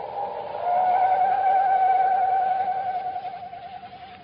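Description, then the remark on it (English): A voice imitates an owl's mournful screech: one long, wavering, mid-pitched call with a slight tremble, held steady for several seconds before slowly fading, with no other sounds around it. “No wonder the mournful screech of the owl had a familiar sound to Chuck.”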